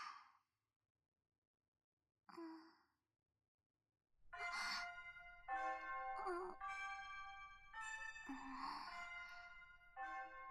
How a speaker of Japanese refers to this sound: 無粋なチャイムさんですの。ご羊様、残念ですがここまでですの。申し訳ありませんが、私授業に遅れるわけには参りませんの。